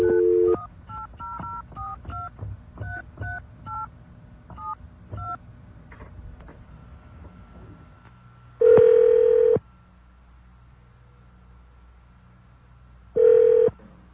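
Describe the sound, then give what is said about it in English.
A steady dial tone gives way to a quick run of about a dozen touch-tone beeps as a toll-free ICUSA customer service number is dialed, then two long ringback tones separated by a pause of line hiss, all clear. “Let's give that a try. Dial phone.”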